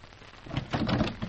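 A door being opened to let in the police after a warning buzzer, with a short rattling, scraping clatter and a soft low thud, set against a steady rain-like hiss, with no one speaking.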